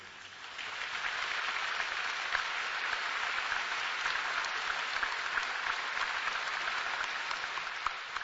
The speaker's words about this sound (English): Yes, I know that clapping was for all of our young ones in our audience that take that stand, our modern Hananias, Mishaels, and Azariahs.